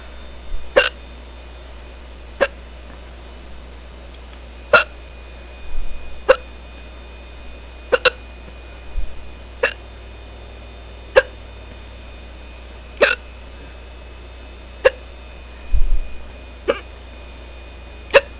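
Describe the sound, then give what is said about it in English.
A series of sharp hiccups, roughly a dozen, recurring at a quick, fairly steady pace every second or two, with faint breathy sounds between them and no talking. “Oh, these hiccups are pretty fast.”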